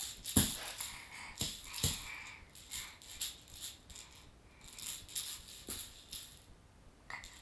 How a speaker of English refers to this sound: What do you want out the box? What do you want to get out of the box? Rattle?